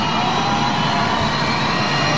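A large concert crowd screams and roars steadily and loudly, a dense unbroken wall of cheering voices with no pauses and no distinct words.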